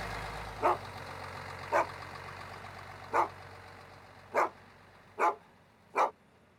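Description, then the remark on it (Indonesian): A dog named Blacky barks at night, six sharp single yelps spaced unevenly over several seconds, above a low, steady engine-like rumble that fades slightly as the barking continues. “Dia akan terus menggonggong sepanjang malam.”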